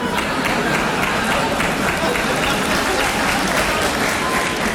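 A crowd applauds steadily for the full stretch, a dense, even wash of many hands clapping at once, loud with no pauses.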